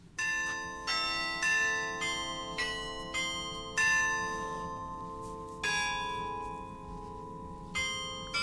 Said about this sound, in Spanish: Es claro que son campanas. Bueno, sí son campanas. ¿Qué son exactamente? ¿Son campanas, sí? ¿De dónde? Bueno, son las campanas del carrillón popular de Amurrio, ¿no? Ah, uh-huh. Que es en un concierto de campanas, hizo esta grabación.